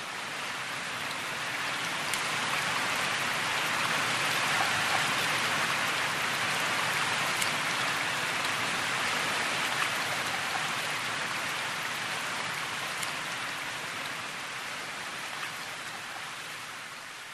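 Steady rain drips from the eaves in a continuous, even patter, with occasional sharper drops standing out against the dense wash of falling water. No voices.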